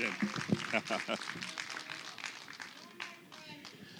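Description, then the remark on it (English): An audience at the World Church applauds with a dense, steady patter of many hands clapping, lasting about four seconds, with murmuring voices and cheers mixed in. “Big round of applause, guys.”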